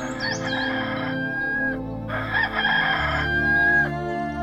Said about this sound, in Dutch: Hoor je de haan?